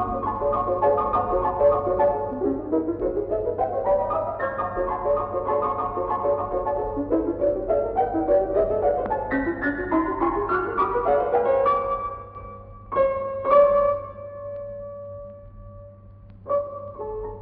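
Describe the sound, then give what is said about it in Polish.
Solo piano plays a fragment of the original piano version of the piece: a lively passage of repeated rising runs and busy chords, then ends with a few loud struck chords that ring out. A steady low hum sits underneath, and no one speaks. “Ale posłuchajmy teraz fragmentu oryginalnej wersji, tym razem na fortepian.”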